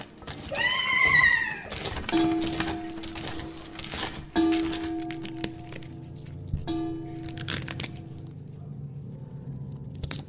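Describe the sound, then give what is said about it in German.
Foley sound effects made in a workshop for a live radio play: a horse whinnies briefly, then a deep church tower clock bell tolls three slow strikes that ring and fade, over steady crackling fire and a clattering horse-drawn carriage on nighttime London streets. “Glockenschläge einer Kirchturmuhr, eine Pferdekutsche auf den nächtlichen Straßen Londons, knisterndes Feuer.”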